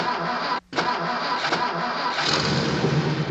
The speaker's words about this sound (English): The little elephant's full of water. Watch when I start the car.